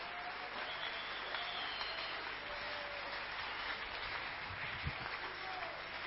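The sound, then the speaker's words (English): An audience claps their hands for Jesus in a dense, steady wash of applause that holds for several seconds, with faint voices calling out underneath. “If you understand anything I've spoken today, can you clap your hand for Jesus?”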